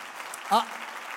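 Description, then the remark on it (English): Steady, dense clapping from a crowd in honour of people who serve, filling the whole stretch, with a brief voiced shout or cheer rising above it about halfway through. “Let's really give them all a hand clap that serve like that.”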